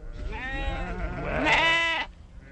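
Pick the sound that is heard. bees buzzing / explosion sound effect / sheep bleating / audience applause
sheep bleating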